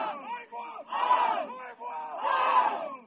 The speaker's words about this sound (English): Dozens of people shout in the Haida language as they heave together, carrying the canoe to the water. The canoe has a fiberglass hull with wood underneath and is painted red, white, and black. A design of running salmon swirls around the canoe.